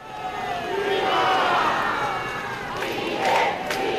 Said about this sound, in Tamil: சாம்பல் குடுவையை ஏற்றி செல்லும் ராணுவ வாகனத்திற்கு தங்களது மரியாதையை செலுத்த அதிக அளவிலான மக்கள் கூட்டம் ஃபிடல் காஸ்ட்ரோவின் பெயரை கோஷமிட்டும் கியூபாவின் கொடியை அசைத்தும் தலைநகர் ஹவானாவில் அணிவகுத்து நிற்கும் காட்சிகளை தொலைக்காட்சி படங்கள் காட்டின.